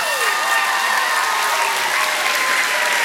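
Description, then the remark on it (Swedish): An audience applauds steadily for about three seconds, a dense, even wash of clapping from many hands at a constant loud level, with no one speaking over it. “Ja, hon är värd en applåd faktiskt.”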